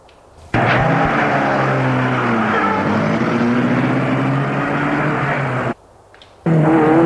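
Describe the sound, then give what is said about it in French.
A car engine roars to life and accelerates hard, its pitch climbing as it pulls away at a mad speed, loud; after a brief drop-out the engine noise surges back. “La voiture file de plus en plus vite, à une vitesse folle.”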